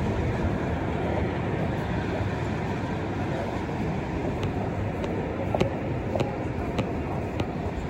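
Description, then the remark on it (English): Steady, heavy rumble of a train in a station, with scattered metallic clicks and clatter in the second half; no voices. “All right, guys, so this is a train station in here, okay?”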